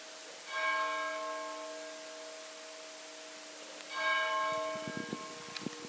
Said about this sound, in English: Absolutely beautiful, the bells of Holy Cross Abbey.